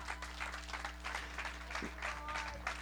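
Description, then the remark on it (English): An audience claps together as an offering to the Lord, in a steady, dense wash of applause lasting several seconds, moderately loud and continuous, with faint murmurs and a low hum underneath. “Give the Lord a clap offering.”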